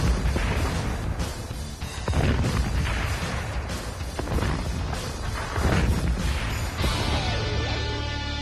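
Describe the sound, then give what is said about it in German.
A loud explosion-like boom from a gas blast during a fire brigade exercise rolls into a sustained roaring rumble of a real fire, with repeated heavy bursts and crackling surges over about eight seconds, then easing slightly toward the end. “Hammerhart, hat das gewumst. Und da brennt's.”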